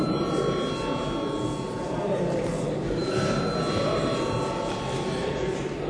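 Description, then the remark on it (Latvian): A parliament chamber bell rings without pause before a vote on a bill, a loud, steady electric clatter with a sustained metallic pitch and no one speaking over it. “Lūdzu zvanu.”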